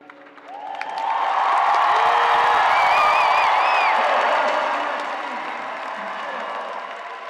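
A large crowd erupts in loud, sustained applause and cheering, with scattered whoops and whistles rising above the roar before it eases slightly toward the end.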